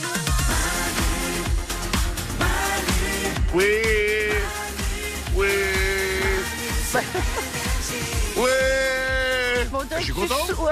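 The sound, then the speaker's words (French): A voice imitates the cry of a happy whale with three long, wavering wails, each held for a second or more, over a loud, busy musical backing. “C'est le cri de la baleine qui est heureuse.”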